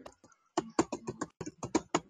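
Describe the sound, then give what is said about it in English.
Rapid, uneven clatter of keys on a computer keyboard, about a dozen sharp taps in quick bursts, moderately loud, with no voices. “Yeah, I'm sorry for my typing.”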